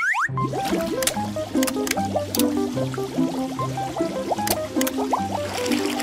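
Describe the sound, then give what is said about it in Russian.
Water pours steadily into a container for about six seconds, filling it so a pirate ship can float, with bubbly gurgling and rising tones as it fills, plus a few bright splashy clicks. It is loud, with no talking. “Ваша задача — наполнить емкость водой, чтобы корабль мог плавать.”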